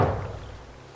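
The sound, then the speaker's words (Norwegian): A police chief knocks on the front entrance door below an apartment on 12 April 1933: a single heavy thud, deep, its low boom lingering and fading over about a second with no voices. “Politisjefen selv marsjerer opp til inngangsdøra nedenfor leiligheten og banker på.”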